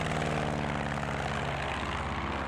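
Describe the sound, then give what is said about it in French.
A propeller airplane engine drones steadily throughout, a loud, continuous hum with a pulsing low throb and harmonic whine, no voices present. “Ils sont quatre dans l'avion.”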